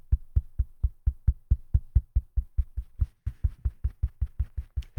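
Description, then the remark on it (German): A long run of steady knocking, about four dull thuds per second, each a short low-pitched thump, continuing evenly and fairly loudly with no voices. “Ich werde hier einfach mal klopfen”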